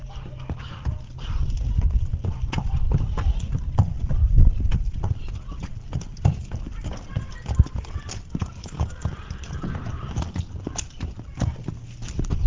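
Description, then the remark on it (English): Heavy hooves of Daniel, a shire horse, clip-clop at a steady walking pace across a hard farmyard at Umberslade as he is driven through a set of traffic cones, fairly loud, over a low outdoor rumble with faint voices in the background. “here he certainly demonstrates that he is the horse's master as he drives Daniel through a set of traffic cones which have been laid out in the farmyard.”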